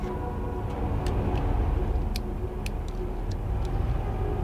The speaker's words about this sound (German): Mit gehörigem Sicherheitsabstand manövrierte Bob seinen Käfer in Richtung Santa Barbara. Dabei hatte er Mühe, Silvesters MG nicht aus den Augen zu verlieren. Mittlerweile war es stockdunkel geworden.